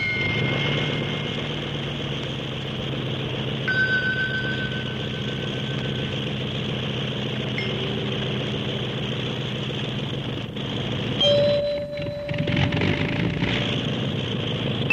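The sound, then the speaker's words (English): A small propeller plane's engine drones steadily throughout as it flies in irregular curves and loops, a dense, even hum. Two brief, clear ringing tones from struck musical glasses rise above it, and the engine's sound wavers briefly near the end. “When you hit that other note, I thought the motor of the plane started acting up. There was a change in the sound of the plane.”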